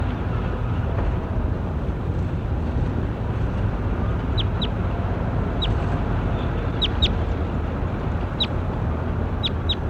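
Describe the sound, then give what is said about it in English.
Short, high-pitched chirps from a bird labelled J9, being recorded, repeat in small irregular bursts, some in quick pairs, over a constant low rumbling background noise; nobody speaks. “Start recording the J9 again.”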